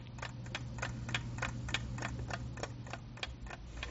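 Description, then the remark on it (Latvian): An alarm clock on a white square wooden table covered with a white cotton tablecloth ticks steadily, a dozen or so crisp, evenly spaced ticks in a brisk rhythm, over a low, constant background hum. “Uz tā modinātāja pulkstenis.”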